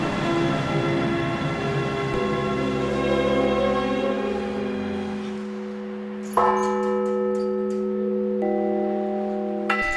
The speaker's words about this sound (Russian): Восьмого июля, в день памяти святого равноапостольного князя Владимира, по ежегодной традиции по Кузбассу прокатилась волна колокольного звона, посвященная Дню Крещения Руси. Звонили колокола в городах и селах, в соборах и малых храмах.